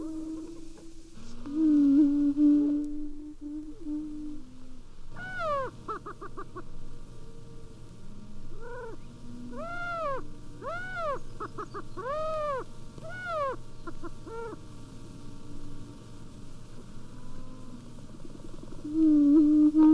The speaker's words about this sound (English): The booming of prairie chickens can still be heard during the spring in some of the north central states in southern Canada. Here they are calling in Wisconsin.